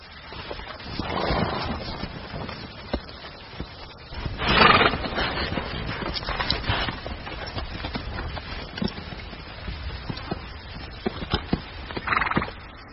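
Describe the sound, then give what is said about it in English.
Bands of wild mustang horses converging on a waterhole in the Nevada desert, western United States, in July whinny in a few loud, drawn-out calls, spread across the scene, over a steady background of hooves clopping and shuffling on hard ground, with no one talking. “Bands of wild horses, Mustang, are converging on one of the last remaining waterholes for miles.”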